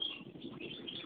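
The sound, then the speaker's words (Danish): Faint birds chirp in the background, with a couple of brief high tweets rising over a steady, soft wash of noise. No one speaks. “Jeg kan høre de skide fugle i baggrunden, mor.”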